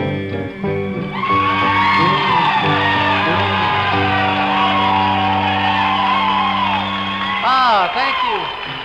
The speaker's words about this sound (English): Thank you very much for all that wonderful applause. When it comes to giving a hillbilly like me applause, I just can't get enough of it.